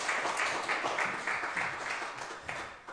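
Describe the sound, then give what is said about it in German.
Steady applause for the band at a church service, a dense wash of many hands clapping at a constant, fairly loud level for a few seconds, with no voices on top. “Einen kräftigen Applaus für unsere Band.”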